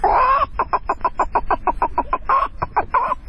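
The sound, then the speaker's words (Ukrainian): A tall grey-haired man on a street imitates a clucking hen for a group of children, giving a drawn-out cackle followed by a quick, steady run of a dozen or more sharp clucks, fairly loud, with no other talk. “А котра яйцька снесла?”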